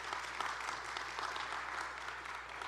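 A steady round of applause from a church audience, many hands clapping in a dense, even patter that holds at a constant level throughout without voices over it.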